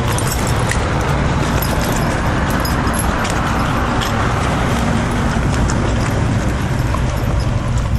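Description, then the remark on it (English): A loud, steady rumble of a car fills the whole stretch, constant, with faint crunching and clopping sounds nearly buried beneath it. “The fucking car jammed it out”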